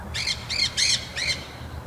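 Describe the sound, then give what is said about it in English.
Four harsh, raspy squawks from a water bird, evenly spaced, with a low rumble of background noise underneath and no talking. “Water birds sound so much more abrasive than their woodland counterparts.”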